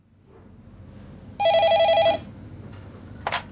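A telephone bell rings in one short, loud burst of rapid trilling, followed by a brief click, with faint background noise and no talking.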